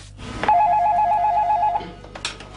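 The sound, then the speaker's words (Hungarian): A telephone in the mayor's office of the village of Bábonymegyer rings once with a warbling electronic trill lasting over a second, clear, followed by a short rustle or clunk like the handset being picked up. “A Bábony-megyeri polgármesteri hivatalban folyamatosan csörögnek a telefonok.”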